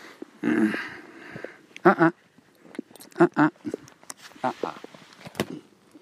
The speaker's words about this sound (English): Putting the iPhone on the grass and picking it up again.